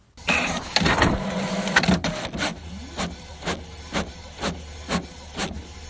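A Kodak printer, about four years old, runs on its own at home, starting with a dense whirring, grinding rush of mechanism, then settling into a steady series of evenly spaced clunks as the paper feeds through.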